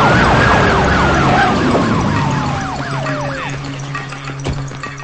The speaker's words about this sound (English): He hears the sirens and jumps over a hedge. Police cars stop in front of Nancy's house.